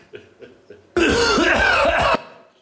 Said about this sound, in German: Wir nähern uns so langsam dem Ende. Wir kommen zum 10. Huster.